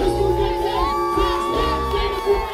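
A concert crowd roars continuously, many voices cheering, clapping and singing along with every word in sustained, tuneful tones over a dense, steady wash of noise that stays loud throughout.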